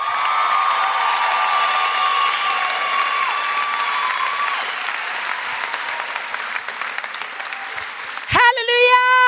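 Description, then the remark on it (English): A large audience claps for Jesus in a steady, dense wash of clapping with some cheering mixed in, before a loud voice cuts in near the end. “Come on, clap for Jesus.”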